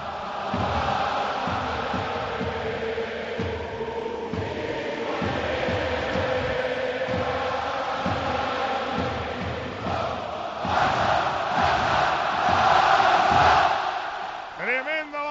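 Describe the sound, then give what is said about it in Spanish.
Nearly 100,000 spectators at the Camp Nou sing the FC Barcelona anthem a cappella after its first bars played over the PA, before a Barça–Madrid clásico, a dense, roaring wash of voices with a steady rhythmic pulse, swelling louder toward the end as the singing rises. “Sí, señor, y además sonaba primero los compases a través de megafonía, pero ahora está cantando a capela casi 100.000 espectadores en el Camp Nou.”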